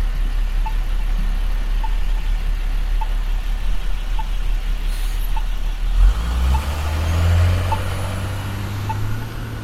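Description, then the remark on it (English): A bus pulls up and stops beside the road, its heavy engine rumbling louder and idling after a brief air-brake hiss, while a steady beeping ticks in the background. “I don't know if he's stopping for me or not, but he sure is blocking my way.”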